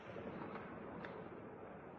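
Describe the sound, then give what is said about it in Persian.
A dense, continuous roar of rumbling blasts of explosions and artillery echoing across Kyiv, Ukraine, on the fourth day of the Russian army's attack, with a slightly sharper burst near the middle and steady low thunder throughout. “صدای انفجار، بوی بارود و دود و آتش در مناطق مختلف و از جمله در کیف پایتخت.”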